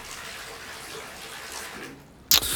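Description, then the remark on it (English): Lemon water pours steadily into a glass with a soft, continuous splashing hiss for a couple of seconds, followed by a sudden sharp, bright knock. “Glass of lemon water to sweeten your breath.”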